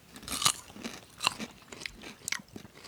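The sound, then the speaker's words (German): Wet chewing with crunchy bites and lip smacking, a few sharp bursts spaced irregularly over a few seconds, with no talking. “Also wie gesagt, wenn wir hier schmatzen heute. Dann ist das so.”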